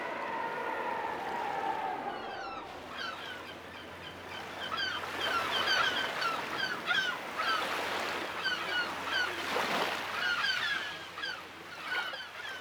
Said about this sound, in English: Mostly at the moment we can hear seagulls. Also you can hear steps. And the sea, and always the wind.